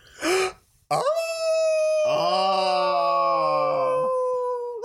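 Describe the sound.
A person imitates a wolf howl in a howling contest: a short yelp, then a long, sustained rising-and-steady vocal howl with a second voice joining partway, loud, ending with a brief upward note.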